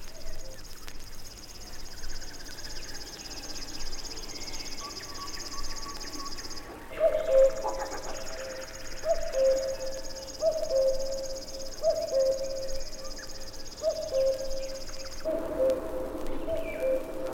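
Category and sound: bird, river warbler song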